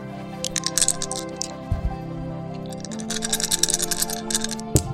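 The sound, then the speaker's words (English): Dice being rolled rattle and clatter in two bursts of quick, sharp clicks, with a low hum underneath and no talking. “Hang on, I just got to roll some dice.”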